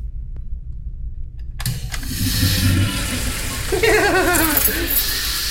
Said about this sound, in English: You heard the flush, but you didn't hear the pee, the tinkling.